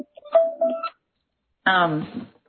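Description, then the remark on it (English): A brief electronic mobile phone alert chirps with a few quick tonal notes, then stops; after a short pause, a person's voice speaks. “Sorry, my phone's going off.”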